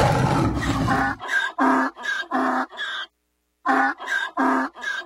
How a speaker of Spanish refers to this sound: Y se puso a rugir. Bueno, al menos eso pensaba él, pues su rugido más bien parecía un rebuzno.